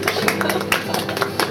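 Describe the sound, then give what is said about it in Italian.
An audience breaks into applause, a dense, steady patter of many hands clapping at once, fairly loud and sustained through the short moment with no voices over it. “Un applauso.”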